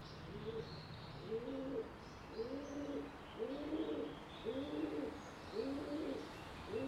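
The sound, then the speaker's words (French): Pigeons in an urban setting coo in a steady series of about six low, rolling calls roughly a second apart, over a constant hiss of outdoor background noise with faint chirps. “Donc ces pigeons, ils remplissent une niche écologique qui est en milieu urbain.”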